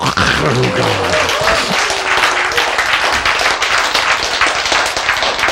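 A crowd bursts into steady, loud applause, many hands clapping densely for several seconds, with a brief voice heard at the very start.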